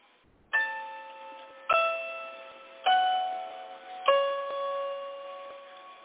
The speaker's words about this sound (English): I'm going to play some more music here. Okay. ….